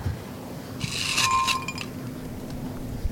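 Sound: ice clinking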